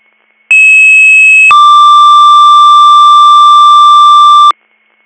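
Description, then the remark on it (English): A loud two-tone dispatch alert for Department 12, Greater Valley EMS and Rescue: a steady high tone holds for about a second, then drops to a lower steady tone lasting roughly three seconds, with no voices. “Department 12, disregard your tones.”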